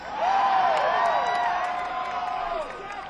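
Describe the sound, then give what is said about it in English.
A crowd cheers and whoops loudly for about three seconds as a band member buttons up his jacket, many voices overlapping in a steady roar that begins abruptly and tapers slightly at the end. “Except when I button up my suit and you cheer for that.”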